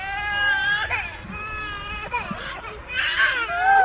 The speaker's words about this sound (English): There are 7 children, including several drooling and gooing preverbal toddlers.